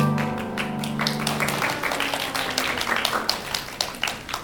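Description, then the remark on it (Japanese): The final sustained notes of a duet, the fifteenth and last song, ring out and fade, then audience applause rises, many hands clapping in a dense, uneven patter that grows steadily louder toward the end. “皆さんまだちょっと半分後ろを向いておられましたから、の曲が終わったら拍手。”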